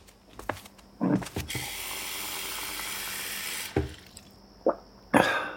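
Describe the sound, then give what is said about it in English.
A parent gets a glass of water: a tap runs steadily for a couple of seconds, filling the glass, framed by a few sharp clinks and knocks before and after. Clear, with no voices. “Take this moment of a parent walking across their toy-filled living room for a glass of water.”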